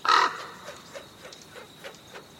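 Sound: crow cawing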